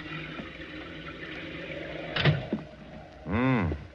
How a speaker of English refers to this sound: Look outside. Listen to the wind and rain as I used to.